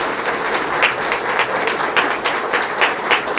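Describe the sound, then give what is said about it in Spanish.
A crowd applauds steadily for secretary Arthur Garza, many hands clapping in a dense, continuous wash with a few sharper claps standing out now and then, sustained at an even level throughout. “Gracias, secretario, porque no ha habido nunca un no de su parte, así que un aplauso para nuestro secretario Arthur Garza.”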